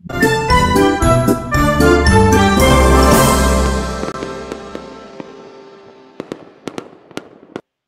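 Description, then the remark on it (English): Bright jingling chimes ring out over deep rumbling fireworks bursts, then fade into a scatter of sharp, crackling pops near the end. No one speaks. “Well, we already had fireworks, but you know, there's some more for you.”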